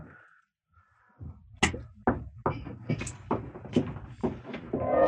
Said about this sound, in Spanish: Alguien golpea la puerta de ese closet.